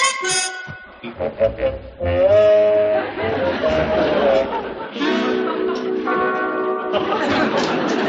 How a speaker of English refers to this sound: And what's this? What's it look like? A cow.